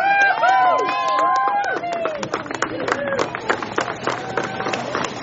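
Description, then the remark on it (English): A large outdoor crowd on the banks of the Ogallee River claps steadily while voices cheer and whoop over the top as Melby the manatee splashes back into the wild, a dense, lively burst of applause that stays loud throughout. “Melby, the manatee, splashed back into the wild to clapping and cheering from a big crowd on the banks of the Ogallee River.”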